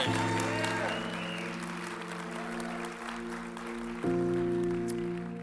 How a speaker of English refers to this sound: Thank you. We give one more round of applause to all of our speakers today.